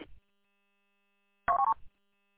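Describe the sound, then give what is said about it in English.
A quick burst of telephone keypad tones, three or four short dual-pitched beeps pressed in rapid succession, clear against an otherwise quiet background, as a phone number is dialed to make a call. “I'm gonna give him a call.”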